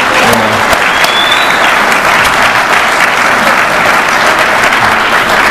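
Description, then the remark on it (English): A crowd applauds the event's organizing committee loudly and steadily, a dense wash of many hands clapping at once that holds an even level for the full five seconds without fading. “If we can give them one more round of applause.”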